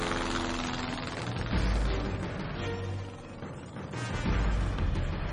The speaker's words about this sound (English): This supercharged lawnmower engine with wings launched them both off into the skies like an angry bat out of a gold mine.